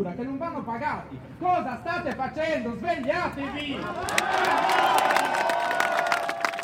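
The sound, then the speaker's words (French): Many protesters shout together in an angry chant telling the government to stop expropriating people's homes and farms, rising into loud, continuous crowd roaring with sharp clattering and banging noises in the final seconds. “Ici, on crie en disant dites au gouvernement qu'il faut arrêter tout simplement les expropriations, tout simplement de chasser les gens de leur maison, de leur entreprise agricole.”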